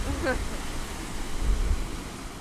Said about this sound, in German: Ja, das ist das Baratoll. Hier rauschen die Wellen dagegen. Das ist was komplett anderes, als man das von so einem Plätscherlagunen aus anderen Atollen kennt.